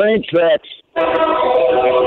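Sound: train horn blowing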